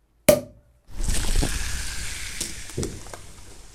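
A single sharp pop with a short ring, a brief pause, then a steady fizzing hiss of champagne being poured into glasses, with a few soft gurgles rising and falling over about three seconds.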